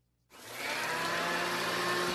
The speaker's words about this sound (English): That is a paper shredder. Yeah. It is a vacuum cleaner. That's a vacuum.